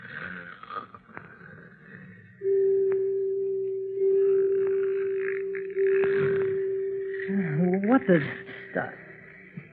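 A man snoring loudly in his sleep in bed: three long, steady droning breaths in a slow rhythm, followed by a wobbling snort that rises and falls in pitch.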